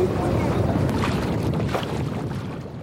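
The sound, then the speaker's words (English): A steady rush of water and wind as a sailboat built in 1908 glides along, with a continuous washing hiss and a few soft splashes, fading slightly toward the end. “This boat was built in 1908. Oh, they're just beautiful to sail. They just glide through the water.”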